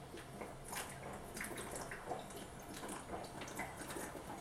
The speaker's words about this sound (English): I got some water boiling here.